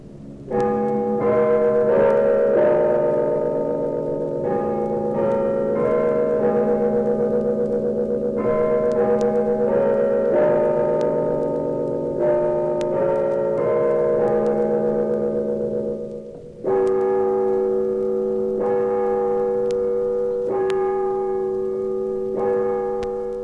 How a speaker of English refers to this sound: The Alt Guild Chimes provided the theme for A Century of Ours, an audio history of the University of Illinois.